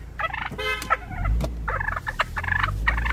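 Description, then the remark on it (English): A wild turkey in the middle of a road in Newton, rushing and jumping at a car, gobbles loudly in a string of rapid, warbling, rattling bursts, one call tumbling after another over a steady low rumble. “in the rearview mirror I could see the turkey going after that guy”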